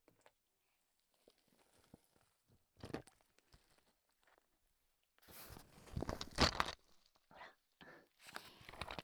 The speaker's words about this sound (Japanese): 氷の音。氷枕のカラカラ。